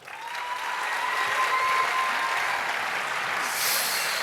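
Sustained audience applause for Team Green in a team contest where the loudest applause is judged, a dense steady wash of many hands clapping that rises quickly and holds at a fairly even, loud level throughout, with no talking over it.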